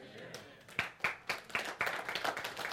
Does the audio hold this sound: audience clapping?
yes